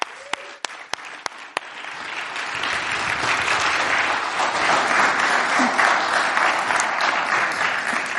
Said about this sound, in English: Give her a big round of applause, everyone.